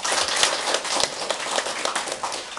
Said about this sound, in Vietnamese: Xin cho một tràng pháo tay hoan nghênh tất cả chúng ta.